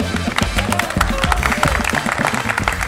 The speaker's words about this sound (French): Voilà, ils savent même pas ce que c'est, ils applaudissent.